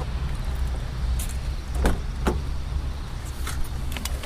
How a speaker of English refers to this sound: There's another bus, a school bus.